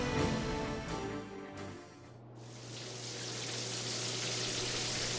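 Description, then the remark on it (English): A few sharp clicks and rattles, then a warm shower in the private bath of a resort cabin bursts on into a steady, full hiss of spraying water that keeps running, with a low hum underneath. “Since she knew it would be several minutes before anyone arrived, she dashed to her cabin and into the shower, thankful they'd spent the extra baht for accommodations with a private bath.”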